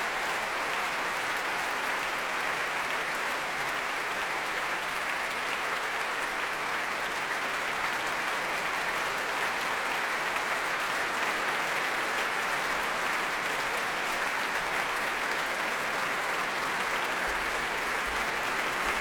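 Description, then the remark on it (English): Sustained applause from a large concert audience for the soloist, the LPO and conductor Vladimir Yurovsky after a concerto, a dense, steady wash of clapping hands that fills the whole stretch without pause, fairly loud, with no voices standing out. “You need fantastic wind soloists, the LPO has them, and with Vladimir Yurovsky, it's always a meeting of minds, she says, as they take the applause jauntily.”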